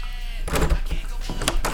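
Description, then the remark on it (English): A locked door is rattled and shaken against its lock in a few quick, jerky bursts of knocking and clattering, fairly loud. “Why is this fucking door locked?”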